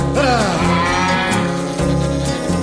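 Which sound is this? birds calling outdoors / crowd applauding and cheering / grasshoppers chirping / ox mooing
ox mooing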